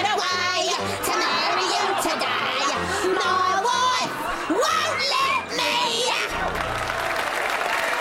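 audience cheering and whooping

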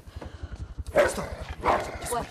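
large dog barking

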